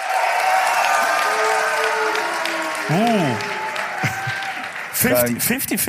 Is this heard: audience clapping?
yes